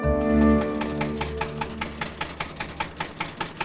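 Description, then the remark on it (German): A tractor engine runs, starting with a deep droning hum that settles into a steady, rhythmic chugging putt-putt, with no one talking. “Mit dem Trecker.”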